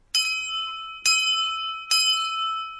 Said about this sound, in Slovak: Takto oznamuje zvon začiatok svätej omše v kostole Premenenia Pána v Španej doline